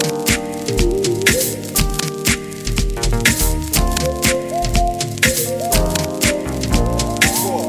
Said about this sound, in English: we also hear the gentle Rhodes keyboard playing the chord progression.